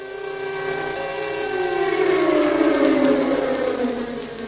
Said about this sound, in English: We are in Prague. It is just before midday on St. Valentine's Day, February the 14th, 1945, and we hear the familiar sound of an air raid siren, captured here in a Czech broadcast from the time.